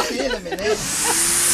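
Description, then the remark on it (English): A Henry the Hoover vacuum cleaner with a smiley face runs with a loud, steady hissing whoosh of suction. A whining motor tone wavers at first, then settles into an even hum beneath the rushing air. “yesterday's guest, which was a man with a Hoover”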